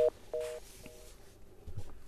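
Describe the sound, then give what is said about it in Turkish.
Short electronic telephone tones pulse in a quick series of three beeps as a phone line is dialed and connects to a caller during a call-in program, with faint line noise in between and no voices. “ama önce telefona bağlanıyoruz.”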